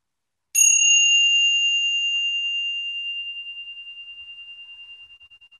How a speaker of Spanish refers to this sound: Mientras escuchas el sonido del gong diluirse en el silencio.